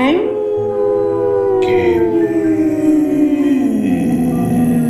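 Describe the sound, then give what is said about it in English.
Long, wavering howls of snow ghosts rise and slide downward in overlapping tones in the snow, with a dog joining in mournfully partway through, loud, sustained for several seconds. “The snow ghosts all around you join in a howl.”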